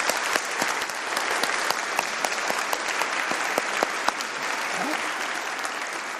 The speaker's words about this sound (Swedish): En applåd. Välkommen applåd.